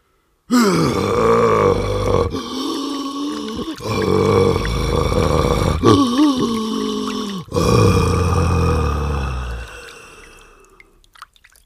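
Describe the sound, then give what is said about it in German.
A dying creature groans in several long, strained, wet-sounding bursts with gurgling undertones. The sound is loud, then weakens and fades away at the end. “das ist Worsch. Sterbende Worsch.”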